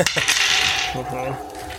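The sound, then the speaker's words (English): Several dice are rolled together, clattering and tumbling across a surface in a rattling burst of clicks that settles after about a second, fairly loud. “I love the sound of multiple dice being...”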